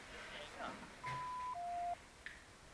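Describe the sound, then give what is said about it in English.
A steady electronic beep in two parts, a higher tone sliding straight into a slightly lower one, lasting about a second, with faint background noise and small blips around it. “Wait for the beep.”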